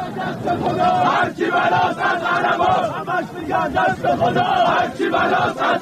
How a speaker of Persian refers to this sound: اما آنطور که تصاویر منتشر شده از گرد همایی روز جمعه در پاسارگاد نشان می‌دهد، تنها شعار مطرح شده ثبت ملی روز کوروش نبوده. در این میان برخی از حاضران شعارهای علیه دیگران دادند.